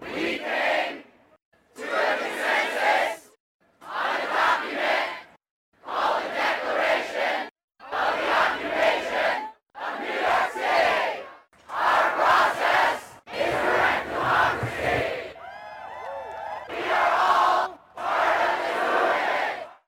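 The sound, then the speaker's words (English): A protest crowd of thousands at Zuccotti Park during the Occupy Wall Street protests, having agreed to stay and occupy the park, chants in loud, rhythmic bursts, voices rising together about once a second and breaking briefly between phrases, with scattered shouts and a whistle-like cry near the end. “And and after a lot of discussion, people consented, this crowd of thousands of people consented to stay and occupy Zuccotti Park.”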